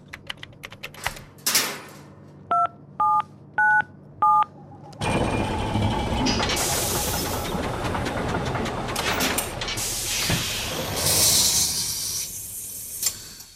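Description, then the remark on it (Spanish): Four short two-tone beeps from the keypad of a chronovisor entering the date 25 May 2008 sound in an even sequence, with a few faint clicks before them, then a loud, sustained rushing, whooshing noise takes over. “Tenemos delante de nosotros el teclado de nuestro cronovisor.”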